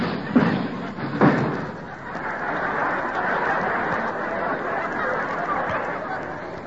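A loud crash as Groucho, landing his helicopter, comes through the roof: two heavy thuds in quick succession, followed by a long, steady rush of clattering, rumbling debris that stays loud to the end.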